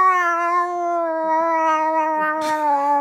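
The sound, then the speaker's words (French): A man's voice imitates cats fighting, an angry cat yowling: one long, loud caterwaul that holds steady for about three seconds and slowly sags in pitch, with a raspy edge near the end. “Ça, c'est les chats quand ils s'engueulent.”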